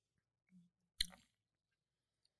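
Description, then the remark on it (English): A single short, wet sip, a quick slurping burst that fades within a moment, preceded by a faint low murmur. “Here's my just a sip.”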